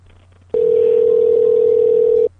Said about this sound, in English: Oh, no, it's ringing.